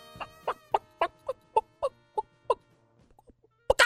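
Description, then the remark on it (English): A man imitates a clucking hen with a brisk, evenly spaced run of about nine loud clucks, trailing into a few faint ones before a sudden louder burst at the end. “since you're the animal impressionist on the show, mm-hmm. give us your best hen right now.”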